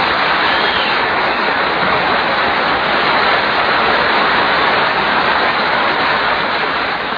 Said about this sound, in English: Our sound effects man is merely helping me illustrate for our listeners the little-known fact that it can rain inside